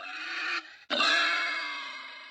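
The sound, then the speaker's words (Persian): Several wild boars grunting nearby: a short rough harmonic call, a brief pause, then a longer, loud, strained grunt-squeal that slowly fades. No one speaks. “یک دفعه صدای چند گراز از فاصله نزدیک شنیده می شود.”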